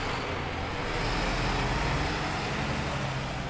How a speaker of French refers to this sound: Puis nous, on va faire attention hein, parce qu'il n'y a pas de trottoir, les rues sont étroites et il faut composer entre les voitures, les scooters et les piétons. Et les piétons n'ont pas la priorité.